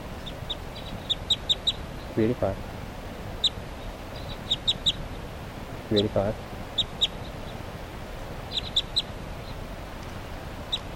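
A flock of birds calls steadily, with many short, high chirps scattered throughout and a couple of lower, throatier calls rising out of the chatter: the flock mates of a tagged subadult female bird, number 387, calling at 11:44.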